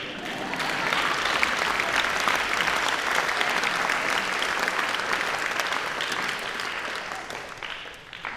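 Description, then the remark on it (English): Sustained audience applause for the professors, a dense, steady patter of many hands clapping at even loudness for about eight seconds before thinning slightly at the end. “And I want to, well, we already clapped a little bit, but for every other professor here.”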